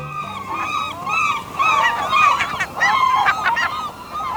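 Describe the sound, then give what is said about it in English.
Loud, harsh bugling calls of gulls ring out again and again, several birds overlapping in a steady chorus, with no voices present. “The loud bugling call of gulls is unmistakable.”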